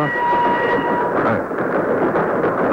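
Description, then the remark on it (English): A steady, loud rumble of a moving train fills the scene, a dense continuous roar with faint high tonal whines riding on top, no voices present. “I'm asking you nicely, why am I on this train with you?”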